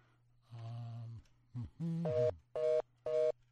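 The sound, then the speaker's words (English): A telephone being dialed to call the National Archives in Washington: a run of electronic tones of uneven length, ending in three short, evenly spaced beeps, all over a steady low hum. Nobody speaks. “This is why the Russians are beating us, because I cannot dial fast enough.”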